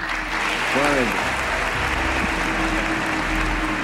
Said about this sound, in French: Ce jour-là, le président américain fait applaudir l'émir du Koweït.